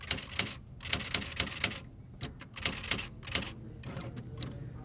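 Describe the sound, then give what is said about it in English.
A poet typing a poem on a typewriter at a library: rapid clattering keystrokes in uneven bursts separated by short pauses, crisp and fairly loud, with no one speaking. “The library chose to have the poets work on typewriters to give the poems a handmade feel.”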